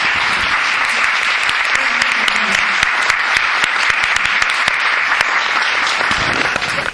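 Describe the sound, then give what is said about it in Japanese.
After a lecture ends, a crowd applauds the lecturer steadily for several seconds, a dense, even patter of many hands clapping at a constant loudness, with no voices standing out, before it starts to fade at the very end. “先生にもう一度大きな拍手をお願いします。”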